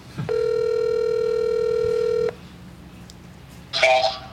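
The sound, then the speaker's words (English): A phone call ringing out over a speaker: one steady, buzzy electronic ring tone lasting about two seconds, then a pause and a brief muffled burst of sound. “All right, we're gonna do a call in”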